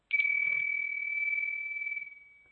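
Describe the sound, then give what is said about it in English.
A meditation bell is struck once, sharply and loudly, to bring participants back at the end of a meditation, then rings on as a single clear, high, steady tone that slowly fades away. No one speaks. “I'll just ring some bells to help bring everyone back.”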